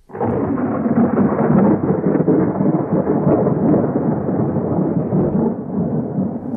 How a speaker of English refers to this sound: There was a great storm, and God went back to heaven, leaving a flaming sword to make sure nobody touched the tree again.